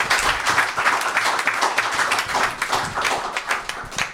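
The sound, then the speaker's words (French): An audience applauds two guests steadily, many hands clapping in a dense, even wash of bright crackling that holds at a constant loudness throughout, with no voices rising above it. “On peut les applaudir toutes les deux, s'il vous plaît.”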